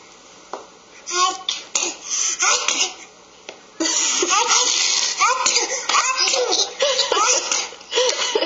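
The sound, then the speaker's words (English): A father sneezes in the background while young children giggle, squeal and babble in the foreground, the sounds coming in lively, closely spaced bursts. “So you're in the moment, you're going to see this is the adult, this is the father, who sneezes in the background.”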